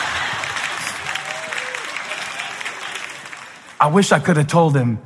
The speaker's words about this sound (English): I wish I could have told him that that is about as much encouragement as you're ever going to get for doing so little. From this point forward in your life, you got to do crazy stuff to get that level of applause.